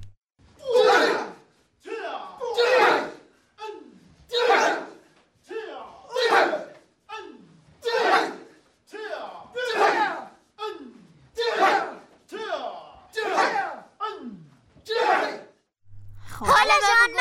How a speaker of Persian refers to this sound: صدای کونگ فو بود. کونگ فو بله. یا کاراته.